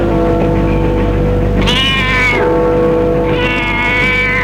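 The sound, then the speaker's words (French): A cat meows twice, two drawn-out, wavering cries a second or so apart, fairly loud over a steady low background hum. “Elle voit le chat.”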